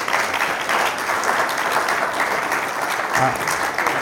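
Sustained applause from an audience for a speaker, a steady wash of many hands clapping at once, fairly loud, filling the whole stretch without pause.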